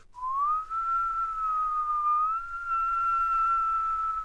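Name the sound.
whistling imitating the wind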